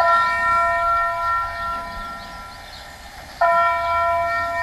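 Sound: town hall bell ringing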